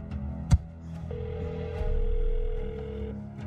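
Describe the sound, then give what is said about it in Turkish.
A sharp click, then a single steady electronic ring tone from a telephone call that holds for about two seconds before cutting off as voicemail picks up. No voices, just a faint hum underneath. “Aç şunu. Nerede bu insanlar?”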